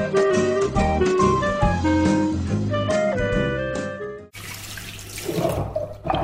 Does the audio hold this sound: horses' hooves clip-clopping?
no